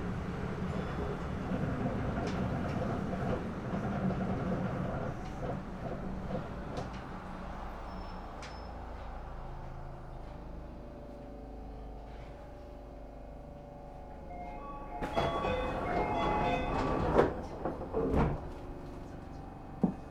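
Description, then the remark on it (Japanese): A steady low rumble of a train running on the tracks, easing off before a burst of metallic clatter and brake squeal as it pulls into platform 1 of Showajima Station. “駅到着の際、揺れますので、お立ちのお客様はお近くの吊り革または手すりにおつかまりください。”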